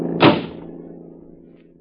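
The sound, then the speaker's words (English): A single solid clunk of a car door being opened, followed by a low resonant hum that slowly fades into quiet. “Open the door to the car. Throw him out of the car.”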